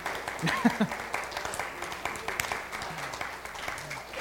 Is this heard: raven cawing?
no